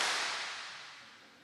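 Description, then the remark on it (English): One sharp hand clap, a crisp bright burst that trails off in a smooth ringing decay over about a second, with no voices or other sounds around it. “Everybody clap. One clap.”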